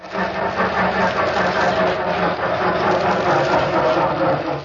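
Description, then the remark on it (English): A car that won't start cranks repeatedly without catching in The Great Gildersleeve radio show, a loud, steady grinding churn with a rapid low rhythmic pulse that goes on for several seconds with no voices. “Darn car. Makes me so darn mad I'd like to give it a good kick in the...”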